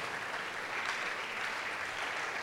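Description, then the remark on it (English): A large audience claps steadily as people come forward to the front, a dense continuous wash of many hands that stays even in loudness throughout, with no voices standing out. “Let's keep clapping for them as they come.”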